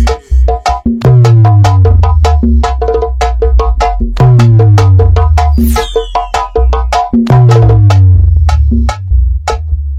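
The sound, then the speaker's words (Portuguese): A car sound system speaker wall (paredão) at Duarte Som Automotivo blasts a bass test track: deep booming sub-bass notes that slide downward, repeating every few seconds under sharp, punchy percussion, loud and continuous with no voices. “Automotivo, vamos testar os graves.”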